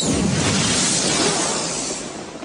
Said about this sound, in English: Lawgiver 2. 25 round sidearm with mission variable voice programmed ammunition. Signal flare. Flare.